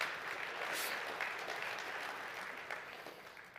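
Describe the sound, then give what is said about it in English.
An audience claps together in a dense, steady burst of applause, given for the glory of God, many hands blending into a continuous crackling wash that holds fairly even before tapering slightly toward the end. “Yeah, we can give the glory to clap for that.”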